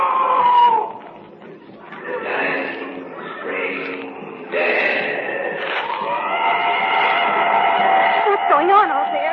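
A wounded animal screams in shrill, wavering cries that run almost without pause, rising and bending in pitch, loud and strained, with a harsh quivering wail toward the end.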